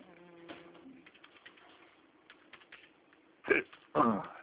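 sneeze

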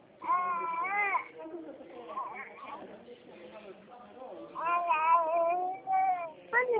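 baby babbling

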